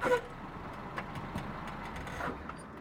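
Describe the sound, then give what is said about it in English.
A car's engine rumbles as the vehicle comes to a halt, with a steady low road noise and a few soft clunks and squeaks. No one speaks. “Stop the car!”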